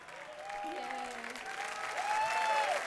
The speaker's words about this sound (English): And thank you very much. Thank you for coming out so late. Thank you for standing and clapping and standing.